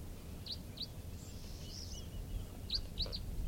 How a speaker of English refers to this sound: We got 8:10, and a flock of four crossbills just sat down here. Looks like two males and two red, orange birds and two brown birds.